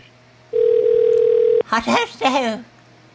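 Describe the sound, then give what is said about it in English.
A single steady telephone ringing tone hums for about a second over a faint line hiss while a call is being transferred, then cuts off as a person starts talking over the phone. “Please hold while your call is being transferred.”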